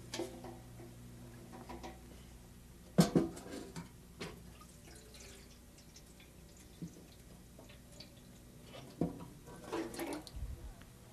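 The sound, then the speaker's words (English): Water splashes and drips into a handmade bucket, tested to see if it holds water, in a few short, uneven bursts, with soft knocks and trickles between them, quiet with no talking. “Let's check our bucket. Let's check to see if it holds water.”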